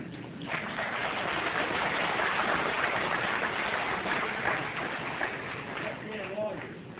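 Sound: audience clapping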